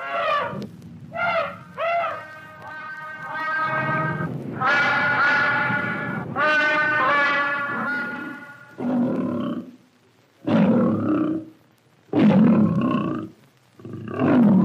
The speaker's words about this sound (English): To the children, grown-ups too, the animals out at Franklin Park Zoo, New England's largest, sound off in their own way.